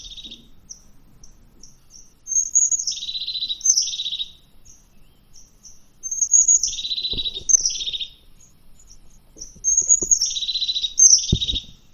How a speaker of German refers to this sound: Die Haubenmeise, ich spiel mal ja.